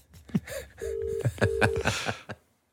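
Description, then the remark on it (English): A phone call rings out through the line as two steady, even ringing tones in quick succession, mid-loud, with scattered clicks and knocks around them and no one talking, before a woman answers. “See the way she answers the phone there?”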